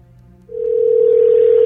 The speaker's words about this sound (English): Yeah, his phone's ringing.